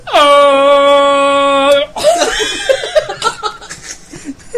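A loud, sustained air horn blares for nearly two seconds in one steady honk, then cuts off as people burst into laughter and excited chatter.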